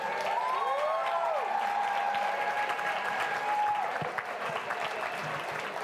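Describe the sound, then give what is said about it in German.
Sustained applause from a large outdoor crowd at a Fridays for Future climate rally in Cologne, Germany, steady and dense throughout, with a few whistles rising and sliding above the clapping. “Dafür einen riesengroßen Applaus an Fridays for Future Köln.”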